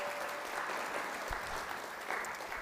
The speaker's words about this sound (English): Big round of applause for Mr. Shepherd.